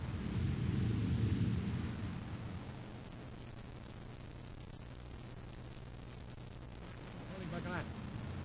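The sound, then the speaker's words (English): A deep, rumbling explosion roars loudly at the start, then fades into a steady low drone; a brief voice surfaces near the end. “It worked, Your Highness. I just saw the explosion.”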